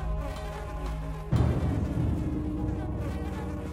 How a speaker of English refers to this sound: They struck themselves but missed the mosquitoes. Meanwhile, the mosquitoes were busy feasting on the people's blood.